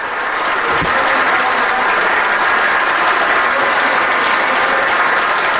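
Steady applause from a group of uniformed law enforcement officials, many hands clapping densely and evenly for several seconds with no voices standing out.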